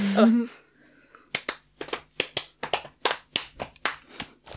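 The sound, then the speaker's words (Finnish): A short spoken phrase, then a sequence of sharp hand claps in a syncopated rhythm, roughly a dozen crisp, bright strikes with uneven spacing like a patterned beat. “Saanko mä tehdä semmoisen rytmitaputuksen?”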